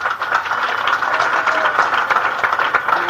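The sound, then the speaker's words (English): A crowd applauds steadily at a comedian's request for those who smoke to applaud, a dense wash of overlapping claps holding at an even, fairly loud level for a few seconds with no voices breaking through. “Would you please applaud if you smoke anything?”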